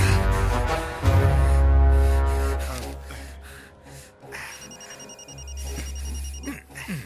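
A phone rings with an electronic, melodic ringtone, its thin high tones repeating steadily over a loud, droning low musical background. No one speaks.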